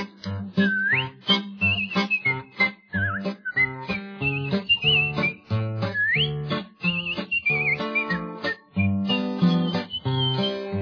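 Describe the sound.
A person whistles a lively, sliding melody with swoops and trills, riding over a busy, rhythmic musical accompaniment that plays throughout. No one speaks.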